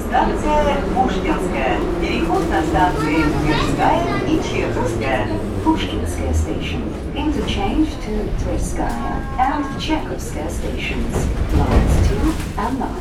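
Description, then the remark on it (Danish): A Moscow metro train rumbles steadily through a station while a loudspeaker announcement in English plays over the noise, with a low drone of wheels and motors continuing throughout. “Ja, det var ikke metroen i New York, I hørte her, selvom der var højtalerudkald på engelsk. Nej, det var faktisk metroen i Moskva, for uden russisk udtale, så kommer der nu også højtalerudkald i hele metroen i år 2017.”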